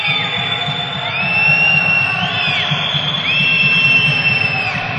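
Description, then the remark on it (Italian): An arena crowd at a match involving Trento murmurs and cheers in a steady, dense roar that swells slightly as a delay-of-game call is whistled, with a few high whistling tones gliding up and down above the noise. “Già giocato i due tempi, anche se il pubblico rumoreggia.”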